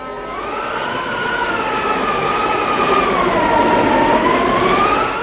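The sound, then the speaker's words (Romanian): Strong, steady blizzard wind howls over snow without a break, its whistling tone slowly rising and falling in pitch over a broad rushing roar. No voices are heard. “Iată-l acum pe Fram, înaintând prin zăpadă pe un viscol cumplit.”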